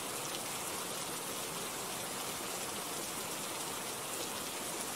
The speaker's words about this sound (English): Yeah, I know that I'm shaking. It's because the rain is cold.